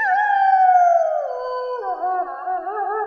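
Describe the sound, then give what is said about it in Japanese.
A single long, sustained wolf howl, loud, gliding down in pitch before wavering with a slight tremble toward the end, with no other sounds around it. “それがし、犬どもの主にして狼の王なり。”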